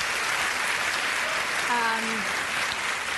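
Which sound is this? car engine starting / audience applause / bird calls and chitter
audience applause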